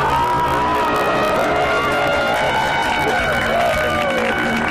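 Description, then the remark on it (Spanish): Old 1992 recording from Atapuerca of a crowd applauding and cheering, a dense steady wash of clapping with overlapping voices, shouts and whoops throughout, fairly loud and sustained for the whole stretch. “Esos aplausos son de 1992.”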